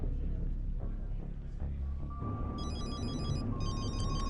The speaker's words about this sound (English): I wish his phone ring was when the Saints go marching in.